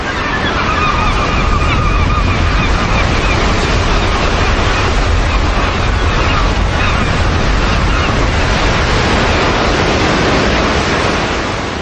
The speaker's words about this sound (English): And I think in previous generations it was probably even more rumbling than it is now. I think it's fallen away a bit, but you still hear the sea just booming in there.